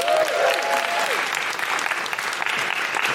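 Steady, dense applause from a live show audience for a volunteer organiser, a broad wash of clapping at a fairly loud, even level throughout, with a brief higher tonal whistle or cheer near the start.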